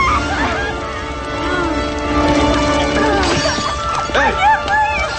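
windows shattering

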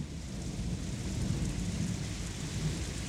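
heavy rain with thunder

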